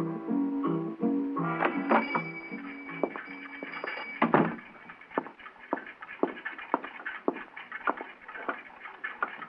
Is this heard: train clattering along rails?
no